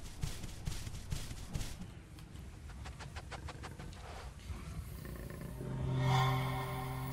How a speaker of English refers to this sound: Okay, and it's about to start raining. Crap. Nice thunderstorm sound.